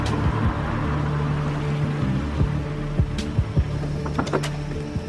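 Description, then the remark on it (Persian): Akhavan's car engine hums steadily as it rolls to a stop in front of a house, with a few mechanical clicks and thumps near the end as it settles into parking. “ماشین اخوان میاد جلو در خونه پارک میکنه.”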